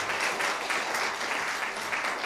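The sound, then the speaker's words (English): A crowd applauds a performing group, clapping steadily in a dense, continuous patter of many hands at moderate loudness, with no voices standing out over the applause. “Don't clap so loud.”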